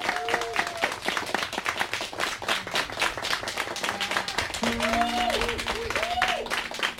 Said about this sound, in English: round of applause for Annie and Anne, because this is amazing.